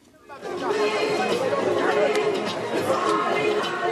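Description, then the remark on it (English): Dense crowd chatter fills the busy Kwalisel bus terminal on Nachivubo Road, where huge festive-season crowds of travelers with luggage scramble for bus seats; many overlapping voices blend into a steady, loud hubbub with occasional sharper clatters and shouts rising above the babble. “At Kwalisel bus terminal on Nachivubo Road, it is nearly impossible to walk through the huge crowds as travelers with huge luggage of foods and furniture scramble for seats in buses.”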